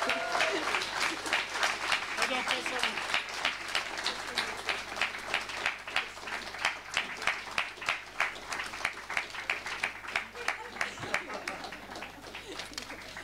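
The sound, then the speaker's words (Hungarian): A large audience applauds the show's host loudly and steadily, a dense wash of clapping that gradually falls into a strong, even rhythm of synchronized claps for the second half. “Egy borzasztó nagy tapsot kérek a mai műsorvezetésért”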